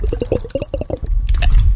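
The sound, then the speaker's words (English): Someone gulps down a big mouthful of water, a quick run of wet swallowing pulses, followed by a brief breathy, liquid-sounding rush. “Take what you would like, a little tiny sip of water.”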